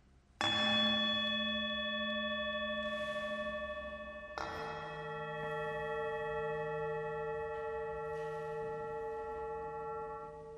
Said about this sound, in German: Kein Glockenläuten, sondern Töne von Klangschalen markieren hier den Beginn des Gottesdienstes. Wir sind in einer sogenannten Hauskirche. Die Gemeinderäume und der weite Gottesdienstraum befinden sich in einem Berliner Gründerzeithaus.